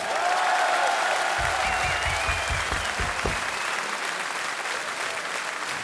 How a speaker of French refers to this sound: On aurait aimé avoir Jean-Michel, Joe, Brézovar, mais il s'excuse, il vous embrasse, il a quelques problèmes de santé, et il vous embrasse et on l'applaudit très fort.